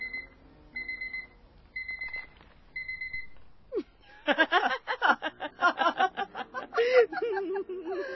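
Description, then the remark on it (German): An alarm clock, found in a box of rubbish, beeps in four short, evenly spaced bursts, then falls silent as someone bursts into giggling, chuckling laughter that carries on to the end. “Mein Wecker. Hey, Hanne, hör mal, der funktioniert ja. Hörst du?”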